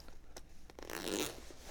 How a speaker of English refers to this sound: Can you zip up the tent?